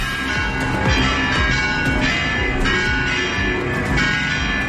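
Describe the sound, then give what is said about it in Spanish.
The bells of Oviedo Cathedral in Asturias, Spain, peal loudly and continuously at midday in homage to the heir to the throne, overlapping strikes ringing out in a dense, reverberant clamor with no voices present. “Con el redoble de las campanas a mediodía para homenajear a la que ya es oficialmente la heredera al trono.”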